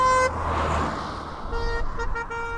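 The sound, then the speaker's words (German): A car horn blares loudly at first in the countryside, then the car rumbles by while a few shorter, lower-sounding honks follow, the tone shifting as it goes past with the Doppler effect. “Dafür kann man auf dem Land, so wie wir, unbedenklich mit der Hupe spielen.”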